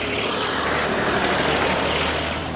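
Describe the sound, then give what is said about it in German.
A loud, rumbling old tractor engine, a steady throaty drone with a slight swell as it passes, with no talking. “Was war denn das für ein Oldschool-Traktor?”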